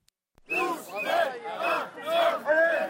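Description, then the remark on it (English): A large crowd at a mass demonstration in France on Sunday by activists opposed to gay marriage chants in unison after a brief moment of silence, shouting a loud, rhythmic slogan in repeated swelling phrases, with many voices blending together. “A mass demonstration was held in France on Sunday by activists opposed to gay marriage.”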